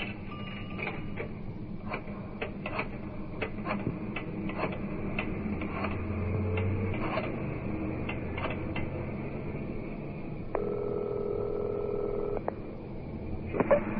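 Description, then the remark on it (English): A telephone being dialed in a telephone booth at a highway gas station: a run of light mechanical clicks in uneven bursts, followed by a steady electronic tone for a couple of seconds, over a low background hum. “You got a phone? A telephone booth round side.”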